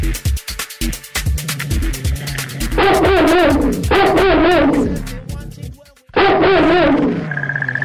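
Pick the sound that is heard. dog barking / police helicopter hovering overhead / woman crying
dog barking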